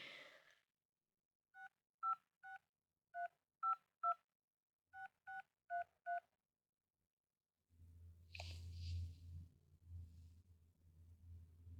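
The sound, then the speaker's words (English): A phone keypad in a school nurse's office dials a parent's cell phone number: about ten crisp beeping tones, a quick run of six, a short pause, then four more, followed by a low rumbling hum on the line. “Let's see if I have her cell phone number.”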